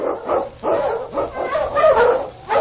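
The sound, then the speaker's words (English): King, the Wonder Dog, a husky sled dog, barks repeatedly and loudly in a quick series of sharp barks with brief gaps, some sliding into yelps, with no one talking. “The Wonder Dog King, swiftest and strongest of Eskimo League dogs, blazes the trail through storm and snow for Sergeant Preston as he meets the Challenge of the Yukon.”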